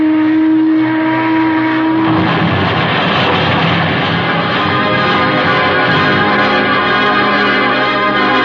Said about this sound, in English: But just as I reached it, I heard the Boston boat again.